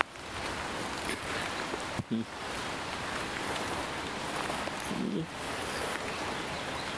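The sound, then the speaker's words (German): Steady, dense hiss of rain falling outdoors, continuous, with a couple of brief muffled bumps or voice fragments breaking through around the middle. “Und weil mir das gerade zu regnerisch ist, kommt das Gerät mit Mobilfunkempfang in die Tasche.”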